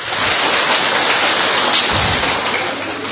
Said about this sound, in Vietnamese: Chúng ta một tràng pháo tay để tạ ơn Chúa.